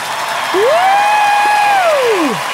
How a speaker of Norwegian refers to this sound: Ironisk jubel